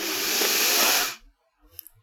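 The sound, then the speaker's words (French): A loud, noisy inhale through the nose during a guided breathing exercise, a steady breathy rush of air lasting just over a second, then cutting off sharply into near silence with a few faint soft sounds. “On fait une grande inspiration en faisant du bruit avec le nez.”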